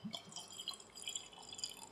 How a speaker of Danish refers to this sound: Det lyder dejligt. Jeg siger, lyden af en øl, der bliver hældt op, er sådan tilsvarende til duften af benzin. Det er noget af det bedste.